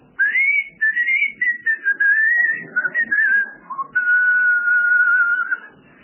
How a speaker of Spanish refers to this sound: El único aspecto diferencial de este sitio, la isla de Tacorde, es que sus habitantes no hablaban, solo silbaban.